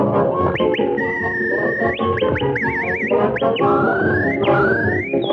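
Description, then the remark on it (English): Someone whistles a tune, sliding between notes with a warbling trill in the middle, over a dense, busy musical background that fills the whole few seconds. “That was me whistling.”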